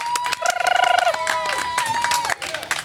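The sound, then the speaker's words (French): A crowd claps steadily and densely, with high whistles and cheering voices rising over the applause, loud throughout. “Ah, on applaudit!”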